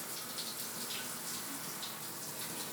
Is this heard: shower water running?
yes